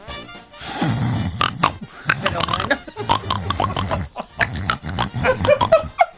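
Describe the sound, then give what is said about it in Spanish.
A person mimics a pig, as one of a list of animal imitations, with a run of loud, snorting oinks and grunts, delivered in several rough bursts with brief pauses between them. “Cerdo.”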